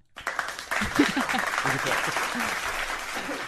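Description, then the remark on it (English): A burst of applause from a small group, with dense overlapping claps sustained for several seconds at steady loudness, while voices chatter and call out underneath. “Just cough over the clap.”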